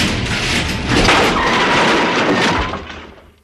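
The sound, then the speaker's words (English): A garage door rumbles and rattles loudly for a few seconds, with a heavy thud partway through, then the noise tapers off. No one speaks. The door is set moving by a garage door opener pressed by mistake instead of a TV remote. “I was trying to change the channel with a garage door opener.”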